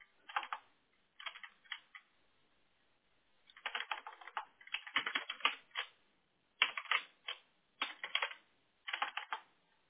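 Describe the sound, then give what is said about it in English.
Bursts of rapid key clicks as someone types a city name or zip code on a computer keyboard, in quick clusters with short pauses between them, fairly crisp, with no voices. “I'm trying to type it in and it's giving me all these other different suggestions”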